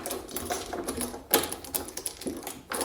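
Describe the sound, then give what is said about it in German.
A key rattles and turns in a door lock, a quick series of metallic clicks and scrapes with a couple of sharper clacks as the bolt shifts. “So, Schlüssel steckt.”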